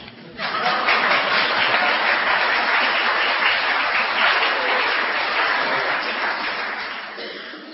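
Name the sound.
audience clapping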